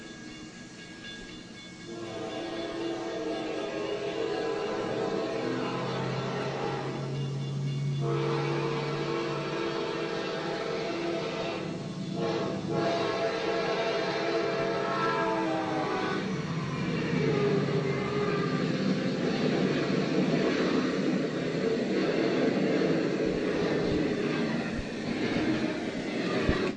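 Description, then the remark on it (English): A train whistle blows in long sustained tones over rumbling rail noise, growing louder as it nears, then its pitch drops noticeably as it passes. No one speaks. “And here's the clue, and that's the Doppler effect that we see when a train goes by. Have you ever noticed that? Listen to the pitch of the whistle.”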